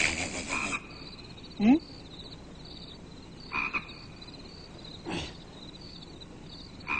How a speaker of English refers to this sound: It's a frog. Oh. It's a frog. Right, Bert. Yeah. Oh, I guess you're right, Bert. I guess that is a frog.